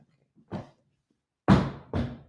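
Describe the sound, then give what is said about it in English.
Heavy stomping on a floor so that the dog Kobe, who can't hear, gets the vibrations: one softer thud, a pause, then two loud, booming stomps about half a second apart. No one speaks. “Does anybody have to walk like this around their dog? Because of the vibrations, that's all he gets.”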